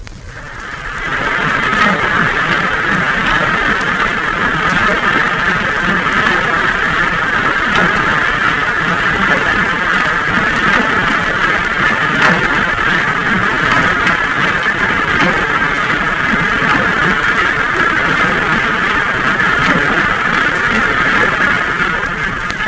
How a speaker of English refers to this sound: Again, there will be a background of freighter noise. In this case, the water noise will be only moderately loud. First, the sounds from the freighter alone.